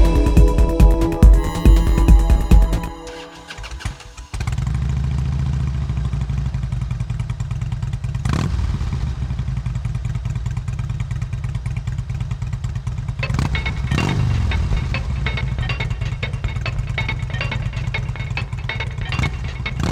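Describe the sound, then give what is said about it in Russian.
A motorcycle engine catches after a brief sputter, then settles into a steady, rumbling idle with a couple of short throttle blips. “Парнишка строгий, офисный пиджак уж поменял на кожаную куртку. С лихвой наполнен байка бензобак.”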